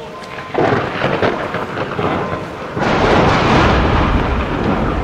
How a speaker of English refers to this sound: What was that? It sounded as if lightning just struck us. Somewhere up there in the tower?